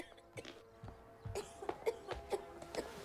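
A mother is caught in a coughing fit: a rapid string of harsh, throaty coughs, growing stronger and more strained toward the end, heard fairly quietly against a soft background.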